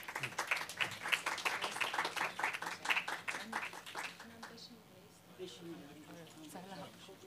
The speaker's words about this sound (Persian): ممنون از تشویقتون.